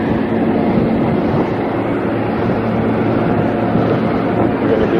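A train at a rail station rumbles steadily and loudly, a continuous low roar with rattling undertones and a faint high hiss, holding even for the whole stretch with no voices.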